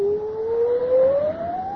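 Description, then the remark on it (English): A thin, eerie wailing cry like wind whistling, likened to the keen of a woman, heard aboard a ship in a storm; it holds one sustained tone that slowly glides upward in pitch, steady and fairly loud, with no voices. “It sounds like the keen of a woman.”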